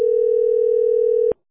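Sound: telephone dial tone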